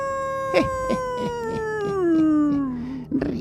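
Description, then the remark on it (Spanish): A single long wolf howl, loud, holding a steady tone that slowly slides downward over about three seconds, with faint rhythmic ticking in the background. “no jueguen a ser Masterchef, no vaya a soltarse el lobo”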